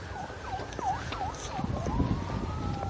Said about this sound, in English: I don't know if you can hear the sirens, but there's a flock of them. Speeding off in the distance.